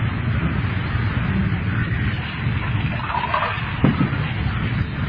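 Water runs steadily from a tap for several seconds, an even rushing hiss as a glass of water is filled, with a faint knock partway through and no one talking.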